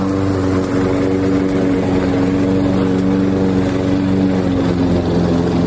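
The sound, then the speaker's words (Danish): A lawn mower engine drones steadily and loudly throughout in a garden in Denmark in summer, with a constant low mechanical hum and no voices. “Sommeren kører jo for fuld udblæsning, og dermed er der også rigtig mange plæneklippere rundt i de danske haver.”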